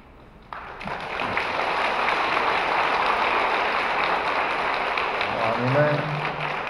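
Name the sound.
audience applause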